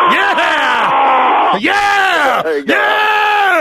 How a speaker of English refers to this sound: Let me hear both of your war growls. Let me hear your war face.